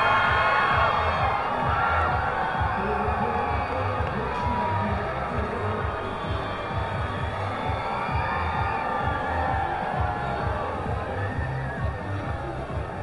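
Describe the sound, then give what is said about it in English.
A large crowd with many children's voices cheers and shouts steadily as squishy baseballs are tossed into the stands at a Mother's Day High A baseball game between Oakland Athletics and Detroit Tigers affiliates, a dense sustained roar that stays loud throughout with no single voice standing out. “And there the last squishy baseball has been tossed into the crowd. A lot of youngsters today on a Mother's Day enjoying some baseball between the High A affiliate of the Oakland Athletics and the hometown Detroit Tigers.”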